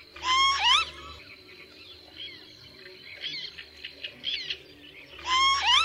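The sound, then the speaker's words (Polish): A northern lapwing gives its nasal, two-syllable call, loud, once at the start and again at the end, with fainter bird calls in between. “najczęściej słyszanym głosem czajki jest dwusylabowe nosowe kwilenie.”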